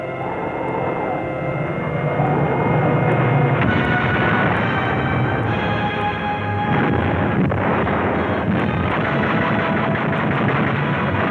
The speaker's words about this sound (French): La dure bataille défensive continue à faire rage. Les avions soviétiques attaquent.